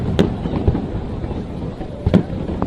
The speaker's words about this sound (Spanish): Esta noche la batalla naval a partir de las 11:30 con cortes de tráfico desde las 9:30 se van a lanzar, atención, más de 12.000 fuegos entre las esclavas y la finca 2 Mariño.